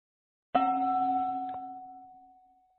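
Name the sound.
bell ringing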